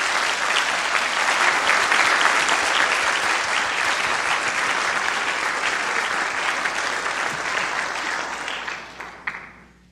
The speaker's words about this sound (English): Let's show our appreciation with a round of applause.